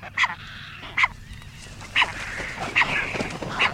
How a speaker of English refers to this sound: Meanwhile, inside the castle, the calls of herons, egrets, gulls, and terns ring throughout the nesting season, monitored carefully by state biologists.